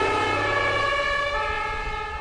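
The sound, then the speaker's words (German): An ambulance siren wails steadily with sustained tonal bands, loud, over a low vehicle rumble, holding its pitch for a couple of seconds as the ambulance drives off and turns a corner. “Der Krankenwagen fuhr los, schaltete die Sirene ein und fuhr um die Ecke.”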